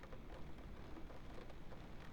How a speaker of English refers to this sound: And you hear the rain outside? It's nice, isn't it? Relaxing.